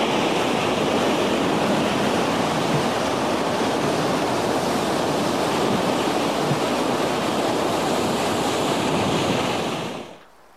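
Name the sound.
stormy sea waves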